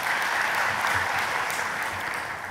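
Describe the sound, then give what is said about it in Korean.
An audience applauds steadily to encourage the Immanuel choir after its singing, a dense, even wash of many hands clapping that holds at a constant loudness for a few seconds, with no voices. “우리 다시 한번 임마누엘 생가대를 향해서 박수로 격려해 주시면 감사하겠습니다.”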